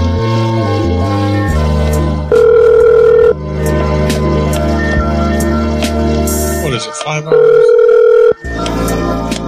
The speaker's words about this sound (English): Gourmet Liquors. Busy once already. Ringing now.